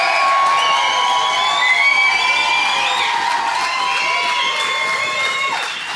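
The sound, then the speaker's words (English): A large crowd at Bannockburn Rugby Club in Scotland gives the first cheer of the evening at a live edition of The Good, The Bad and The Rugby, cheering loudly and continuously, with high whoops and shouts layered over a dense roar that holds steady for several seconds before easing slightly at the end. “You can tell so much about how the night is going to go from the first cheer of the evening, and we're in for a good one tonight.”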